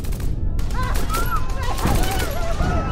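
A sustained volley of rifle gunfire from kneeling foot soldiers firing into a crowd gathered near a platform, about 1,650 bullets at 33 rounds per man, dense rapid shots crackling without pause for several seconds, loud throughout, with rising and falling human cries and shouts mixed in underneath.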